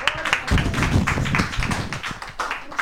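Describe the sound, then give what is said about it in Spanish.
An audience claps for two guests, a steady, dense rattle of many hands at moderate loudness that holds without a break. No voices come through the applause. “Le damos un aplauso.”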